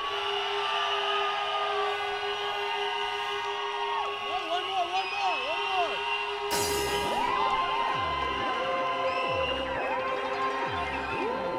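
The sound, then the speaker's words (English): A large crowd at a hardcore show in Atlanta screams and cheers while whistles and horns blare on a count of three in a sustained, chaotic din, the noise suddenly swelling about halfway through into a louder wall of shrieks and whistle blasts. “Because before we start this off, if you have a whistle or you have a horn, I want you to blow the hell out of them on three. And if you don't have a whistle or you don't have a horn, I want you to fucking scream until you pass out.”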